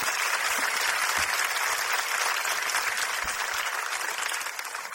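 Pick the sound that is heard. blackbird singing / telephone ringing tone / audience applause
audience applause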